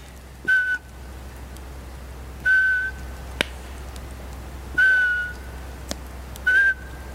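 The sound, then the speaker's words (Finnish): Four short, steady whistled notes at a similar pitch, spaced a second or two apart, a person whistling in a forest to imitate the call of a Eurasian pygmy owl, with faint clicks and low background hum in between. “Tämähän on ääni, mitä käytettiin äsken luontoon. No niin, varpuspöllö.”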